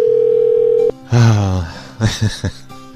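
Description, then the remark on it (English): A steady, even telephone dial tone hums for just under a second as a call is placed back from a New York number, then cuts off abruptly, followed by a short voice-like sound and a few quick, loud bursts. “I'm going to call them back.”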